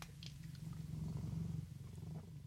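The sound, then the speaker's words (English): A cat named Morrissey purrs at radio station CFRC 101.9 FM in Kingston, Ontario, in a steady, low rumbling drone that holds evenly throughout, soft in level and with no voices or other sounds. “you're with me and my cat, Morrissey, the good-looking and pleasant to be around.”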